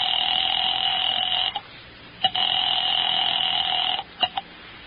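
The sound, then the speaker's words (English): A telephone rings twice in long, steady electronic bursts with a short gap between during a phone call to Smokey Sullivan, followed by a couple of sharp clicks as the line is picked up. No one speaks. “Item 5, 10 cents for a phone call to Smokey Sullivan.”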